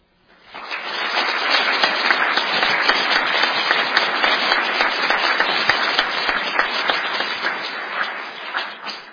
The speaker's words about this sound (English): Thank you. And please remember to save your applause till the end from now on.